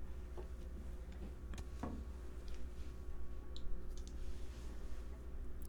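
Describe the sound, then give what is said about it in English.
Dice taken from a car's glove compartment clatter and rattle in a few quick bursts of small, hard clicks, spread irregularly over several seconds. The sound is fairly quiet and sits over a steady low hum, with no talking. “There's some dice in my glove compartment. Grab them.”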